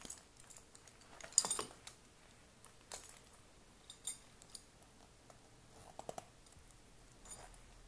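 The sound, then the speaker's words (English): A metal belt buckle jingles and clicks as it's unfastened, followed by a short trouser zipper rasp and scattered fabric rustles, fairly quiet, with no one speaking. “Let me get that belt and zip your pants.”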